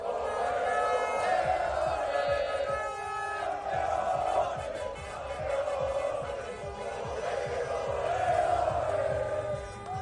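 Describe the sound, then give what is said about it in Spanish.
A large crowd shouts and cheers continuously in the streets of Santander during an overnight celebration, many voices blending into a loud, sustained roar with chanting swells and rhythmic pulses throughout. “Gritos y celebración en diferentes zonas de Santander, que fue la celebración más multitudinaria”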